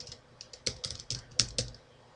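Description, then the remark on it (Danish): Quick, irregular keystrokes clack on a computer keyboard as a note about a contact is typed, fairly quiet, with a few sharper taps standing out in a short burst of typing and no voices. “Hvis der ikke er noget at skrive, så hopper du bare videre, og her der kan du lynhurtigt skrive en note, som er relevant for den person.”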